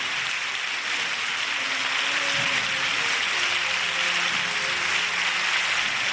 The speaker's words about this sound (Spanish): Escuchamos la ovación de la Basílica.